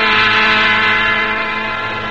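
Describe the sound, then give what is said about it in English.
A commuter train rumbles steadily along with a sustained, droning mechanical roar and faint horn-like tones, loud, with no voices. “Ever ride a commuting train?”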